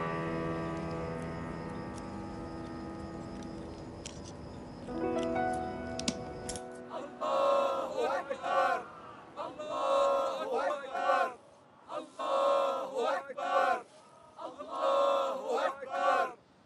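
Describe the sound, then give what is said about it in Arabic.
A crowd shouting slogans in unison in the streets, where people are lighting fires, loud rhythmic chanted bursts with short pauses between them, following a few seconds of dense overlapping tonal noise. “يشعل الناس النار في الشوارع ويصيحون بأعلى أصواتهم ليقولوا إننا موجودون.”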